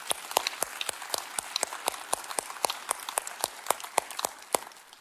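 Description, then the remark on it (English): A church audience claps steadily for about five seconds after watching a video, with sharp, bright hand claps overlapping in a quick, fairly even patter. No one speaks over it. “Can we give a clap for that?”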